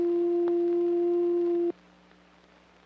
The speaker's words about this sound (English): Built into the synthesizer are a number of oscillators. These oscillators produce sound electronically. Each oscillator produces a different kind of sound with a different wave form. This is a sine wave.